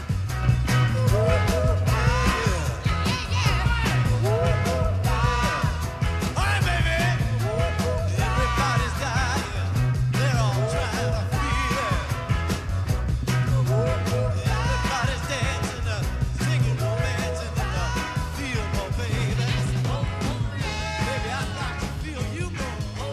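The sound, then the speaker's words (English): A loud, dense rock song plays continuously, with a raw lead vocal screaming and hollering over heavy bass and driving drums, staying at full intensity throughout. “And I guess it's the way that they're screaming and hollering and whoa, whoa, yeah, you know what I mean?”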